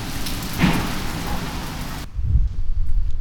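heavy rain pouring

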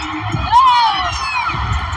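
basketball arena crowd cheering

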